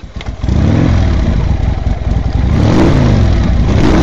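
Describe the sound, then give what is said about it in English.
A motorcycle gang's motorcycles rev and roar as they ride into town, a loud, continuous engine drone with rising and falling pitch that swells, with no voices. “Not long after the storm, a motorcycle gang rode into town.”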